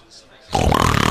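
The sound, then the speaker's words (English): A person imitates another man's snore: a half-second of near silence, then an abrupt, loud, rasping snort that holds steady until the end. “Big D has this crazy snore”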